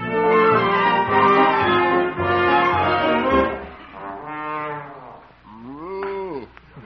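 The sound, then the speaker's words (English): A cow in a dark barn moos several times in a row, long, deep and loud, the later calls sliding up and down in pitch before trailing off. No one speaks. “Then you can milk the cow.”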